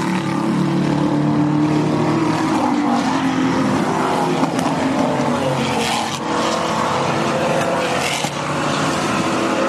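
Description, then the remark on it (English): A tight pack of five racing Maseratis roars past, engines screaming over one another in a loud, sustained wall of sound with shifting pitch as each car sweeps by on its way up a hill. “Like, that was five cars came in a bunch, and now they make their way up the hill and across that, that top corner where they sometimes overtake each other.”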